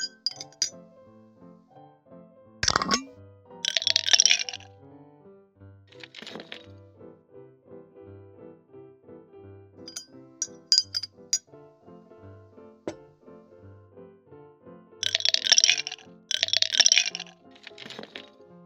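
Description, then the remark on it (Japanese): Hard candies chosen in a candy shop clink and rattle into a glass jar to be taken home, in several bright, clattering bursts, some brief and others sustained, with soft instrumental music playing steadily underneath. “ご自身で選んだキャンディーは、こちらのガラス瓶に詰めてお持ち帰りいただけます。”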